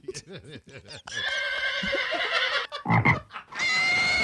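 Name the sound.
frog croaking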